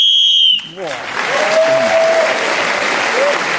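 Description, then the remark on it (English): A single sharp, high whistle blast lasting about half a second cuts off abruptly, ending a speaking turn in a panel game show round about Carnaby Street, and an audience immediately bursts into steady applause with a voice faintly audible underneath. “So, Marcus Brigstock, we're speaking again as a whistle wind, gained the extra point.”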